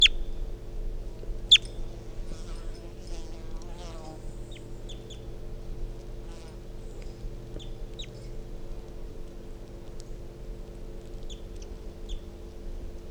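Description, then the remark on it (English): Scattered short, sharp clucks and chirps of wild birds, including bird number 348, pop up every few seconds over a steady, low buzzing drone that hums throughout. “So we're calling 617, and this is bird 348 as wild birds come in.”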